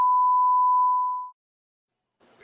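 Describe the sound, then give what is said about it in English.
A steady, loud pure-tone censor bleep covering a swear word holds for over a second and then fades to silence, followed by the faint start of a voice near the end. “So, I love how you beep it out there, but you say it before you play the video.”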